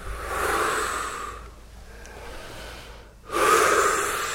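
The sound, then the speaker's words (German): A group holding hands breathes deeply together as they raise their arms three times in a closing ritual: a long, loud, airy breath, a quieter stretch of softer breathing, then another strong, rushing breath. No one speaks. “Und dann nehmen wir die Arme hoch, dreimal, atmen tief aus und ein und gehen trotzdem immer wieder in Blickkontakt.”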